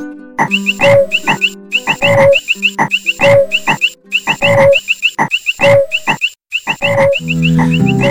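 A frog croaks loudly in a steady, repeating rhythm, roughly eight rasping bursts over several seconds, with no voices and a lower, droning sound at the very end.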